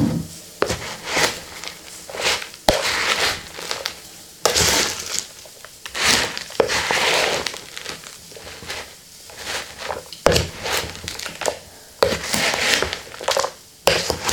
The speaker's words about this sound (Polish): Kurczak musi nam trochę przystygnąć, a ja wymieszam sałatkę w międzyczasie, te produkty, które już są.